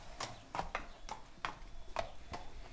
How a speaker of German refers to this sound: Ein kleiner Pferdehof am südlichen Stadtrand Berlins. Auf einer eingezäunten Wiese stehen 5 Pferde, 5 Mitarbeiter,